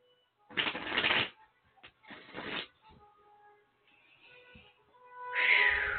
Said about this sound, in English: So the cards will usually do the talking for us. So I'm shuffling now, so I will connect with you.